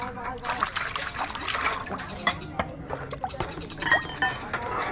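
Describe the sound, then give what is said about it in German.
Women wash dishes on a Sunday morning: running water trickles and splashes steadily while dishes clink and clatter at irregular moments, sharp bright knocks standing out over the continuous wash of liquid. “Die Frauen spülen Geschirr und kümmern sich um das Essen.”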